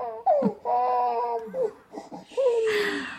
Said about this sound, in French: Je t'ai réveillé, mon trésor ? Ne pleure pas, maman est là.